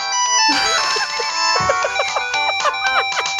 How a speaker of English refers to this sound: their cell phone has this ringtone.